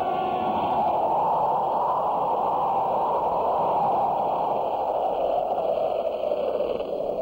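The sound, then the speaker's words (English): A strong, steady wind roars without letup, a dense, hissing rush that stays loud from start to finish. No voices are heard. “With this wind kicking up, the story's got visibility for about 20 feet.”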